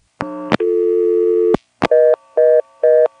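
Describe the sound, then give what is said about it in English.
A click, then a steady, buzzy telephone dial tone from a telephone exchange register (the Rego, which gives dial tone and stores dialed digits) holds for about a second before cutting off, followed by three evenly spaced, higher-pitched beeps. It is loud, with no voices. “In an NX1, if you flash when you're on the Rego, which is the device that gives dial tone and stores your digits, you usually drop to the default busy or reorder.”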